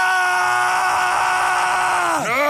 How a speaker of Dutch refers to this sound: de hoofdpersoon zegt, ik wil niet meer verder, we moeten even praten. En die valt achterover in de sneeuw. En dan zegt die vriendje, je moet niet praten, je moet gewoon schreeuwen.